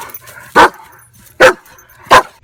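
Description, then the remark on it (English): A dog, Rex, barks three times in a steady, evenly spaced rhythm, each bark loud, with near silence in between. “Say hi to everybody, Rex. Come on, dude, like you mean it.”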